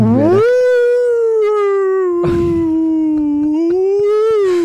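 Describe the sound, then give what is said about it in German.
A siren test: one long wailing tone that rises at the start, then holds and slowly sags and climbs again, rich in harmonics, with a couple of brief noisy bursts breaking in. “Ja, es war auch ein Sirenentest dort unter den Wahlen.”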